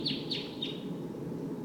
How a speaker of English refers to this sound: Sounds like the V-shaped flight call note. Wild bird. Wild. There may be one more than one wild bird here.